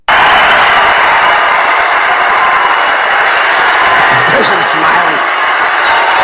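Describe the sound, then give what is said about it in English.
A huge crowd at a Trump rally roars and yells continuously at full volume as a protester or two are in the gallery and bleachers, a dense wall of shouting voices with whoops rising out of it, never letting up. “Okay, they've got a protester or two up in the gallery, up in the bleachers, and the crowd is yelling, roaring, laughing, smiling, gesturing. Listen to them.”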